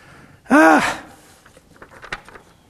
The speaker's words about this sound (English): I'm stifling another gasp. Ay, ay, ay.